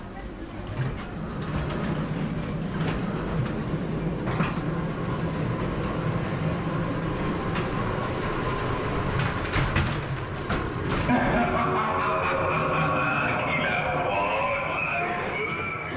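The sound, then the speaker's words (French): A ghost train ride rolls steadily along its rails with a continuous rumbling clatter and scattered metallic clanks; after a while, higher wavering tones rise over the noise. “Il monta dans le train fantôme.”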